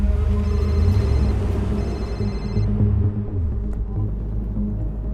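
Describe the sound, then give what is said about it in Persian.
A telephone rings in two short bursts, fairly faint, over a steady low rumble and background music, then the ringing stops while the low drone continues. “داره زنگ میزنه. جواب بده”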